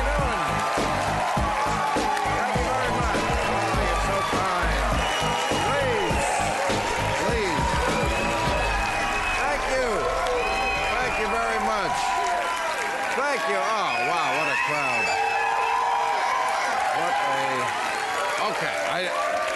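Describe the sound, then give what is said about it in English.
The studio audience of HBO's Real Time with Bill Maher cheers and applauds loudly and steadily, a dense wash of clapping mixed with whoops and shouting voices that carries on without a break for the whole stretch. “I think I know why this crowd is happy.”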